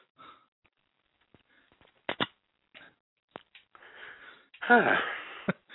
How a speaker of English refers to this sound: That coughing meant he was laughing, folks.